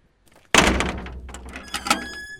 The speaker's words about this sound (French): Là, on va au portail. Une porte, ça sert à quoi ? À ouvrir. Et une fois qu'on a passé la porte, quand elle est ouverte, qu'est-ce qui se passe ? Ben on la referme.